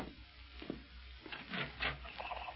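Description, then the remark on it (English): A wooden door is pulled open, its creaking, rubbing scrape coming in a few short rasping bursts that swell and fade over a couple of seconds. Fairly quiet, with no voices. “I've always heard the best way to see who's at the door is to open it and find out.”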